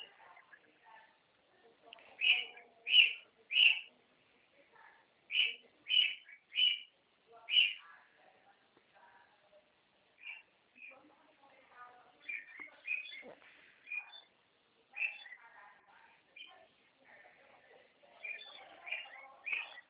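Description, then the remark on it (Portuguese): A small bird chirps repeatedly, bright high notes in quick clusters of three, then scattered, softer tweets continue over faint background noise. Fairly loud. “É, põe água para aquele passarinho lá.”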